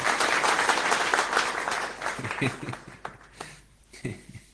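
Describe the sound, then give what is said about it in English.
An audience at a technical talk comparing the HTTP and Gopher protocols bursts into loud, dense applause that holds for a couple of seconds, then thins out into scattered individual claps before fading away. “I have to applaud this because we reached this last.”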